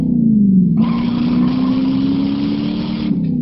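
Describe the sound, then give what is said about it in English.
The standard 383 cubic inch, 335 horsepower wedge V8 engine of a 1969 Plymouth Roadrunner roars, a deep steady rumble that swells into a louder, raspier growl for a few seconds before easing back, with no one speaking. “Power from a standard 383 cubic inch, 335 horsepower wedge V8 engine.”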